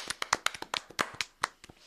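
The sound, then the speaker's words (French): A short burst of hand clapping, a dozen or so sharp, crisp claps in a quick, slightly uneven rhythm, fairly loud with no talking over it. “Ok, bah écoute, on t'applaudit, je te dis.”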